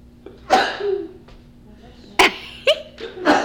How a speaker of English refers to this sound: Bless you. Excuse me.